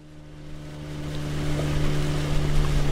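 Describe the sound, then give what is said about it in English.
A motorboat engine drones with a steady low hum, gradually growing louder over a wash of water and wind noise, with no voices, as the boat slows on a lake heading toward a spot near the shoreline where walleye are spawning. “Out on the water, Johnson slows the boat as he heads toward a spot near the shoreline where walleye are spawning.”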